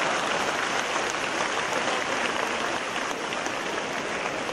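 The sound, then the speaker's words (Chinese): A crowd applauds steadily for several seconds, a dense, even wash of many hands clapping at once with no single claps standing out and no voices over it. “鼓掌的了。”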